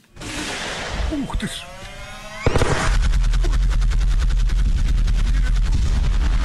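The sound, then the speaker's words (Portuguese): Tank gunfire in combat, a tank opening fire on a supposed convoy of Russian soldiers in alleged fighting between Russian and Ukrainian troops: after a few seconds of noisy commotion, a sharp loud blast opens a sustained stretch of rapid, steady automatic firing that rattles on without pause. “falamos de uma gravação com cerca de um minuto, divulgada nas redes sociais, mostra um carro de combate a abrir fogo contra o suposto comboio onde seguem soldados de Vladimir Putin.”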